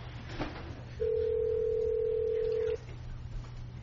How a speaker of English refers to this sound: And just so the public will know that you hear a telephone ringing, there are some members who could only join us by telephone, and so we're trying to get that technology together right now as well.